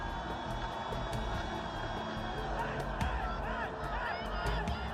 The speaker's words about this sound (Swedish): Runt omkring Kalla hörs de svenska ledarna som hejar på, som skriker hejar och berättar om hur långt framför finskan och tyskan ligger.